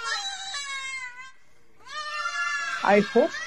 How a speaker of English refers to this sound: This is the screams of lambs.